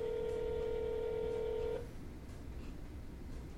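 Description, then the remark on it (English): A phone keypad tone holds steady for almost two seconds as a number is dialed on a phone, then cuts off abruptly, leaving a low background hiss. No one speaks. “We could just randomly call. Just call people. Old numbers on your phone if we weren't using it to record.”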